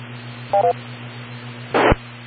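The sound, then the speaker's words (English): A radio repeater in Selden gives its automatic identification beeps: two quick dual-pitched tones over a steady low hum, followed by a short burst of hissing static as the transmission drops. No one speaks. “Got an ID anyway in the Selden machine. That came through.”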